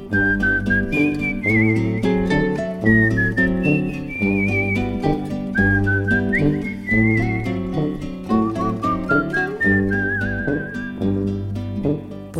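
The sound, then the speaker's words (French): Someone whistles a lilting, wavering melody in clear, sustained phrases over a steady instrumental backing with a bouncing bass rhythm, the whistle sitting prominently on top throughout. “Somnole, à jouer les rossignols, sifflotant mes refrains pour rien.”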